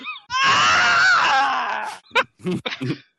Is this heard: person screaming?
yes